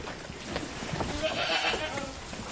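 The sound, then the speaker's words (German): Vivi, a young goat giving birth for the first time, snorts and breathes heavily in a barn in the morning, a steady run of rough, breathy exhalations over a low rustling background, with no one speaking. “Vivi legt sich hin, steht wieder auf, schnauft, atmet schwer.”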